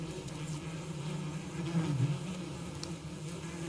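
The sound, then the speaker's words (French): A steady, droning buzz of bees, low and continuous with slight wavering in pitch, filling the whole stretch at moderate volume with no voices. “Partons à la rencontre des abeilles.”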